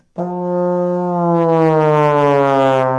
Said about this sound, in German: Bei der Posaune wird nämlich die Tonhöhe über ein langes Rohr gesteuert, das der Spieler ein- und ausfahren muss. Dafür braucht er lange Arme und wenn man seinen Zug ausfährt und gleichzeitig in das Instrument hineinbläst, klingt das so.